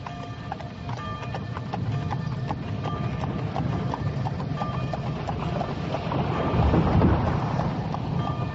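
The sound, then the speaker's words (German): Hooves of a horse-drawn wagon carrying a family clip-clop in a steady, continuous rhythm over a rumbling, noisy background, fairly loud throughout. “Wenn der Wagen nur nicht umfällt.”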